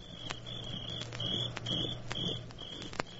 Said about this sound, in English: The sound of crickets. Crickets always indicate a summer evening on somebody's porch.